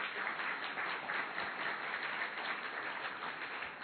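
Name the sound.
audience clapping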